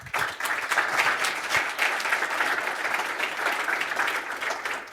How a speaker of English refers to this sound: let's give a warm round of applause for Yannick.